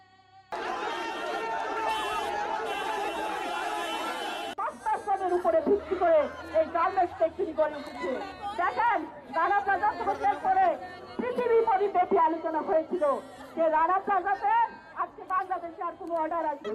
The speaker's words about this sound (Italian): Una folla di persone e parenti si riversa sulle strade, gridando e mostrando foto dei propri cari, morti, dispersi o feriti gravemente. Sono furiosi, inveiscono contro il proprietario dell'edificio,